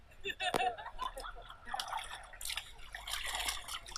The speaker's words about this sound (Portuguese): Já está aqui há muito tempo a lavar a roupa? Sim. Desde 8 horas.